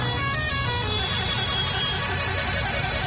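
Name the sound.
many car horns honking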